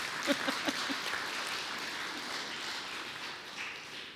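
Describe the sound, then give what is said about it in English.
An audience in a church applauds, a few sharp individual claps standing out at first before blending into a steady, fairly soft wash of clapping that continues throughout. “Yes, you can applaud. It's all right. You can give the gift of applause.”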